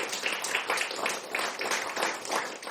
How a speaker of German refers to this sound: Und jetzt gerne Applaus.